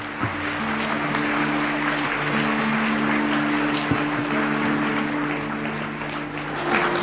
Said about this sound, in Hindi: और हम सभी ताली बजा करके एक बार मुबारक देंगे, जोर से ताली बजाएं।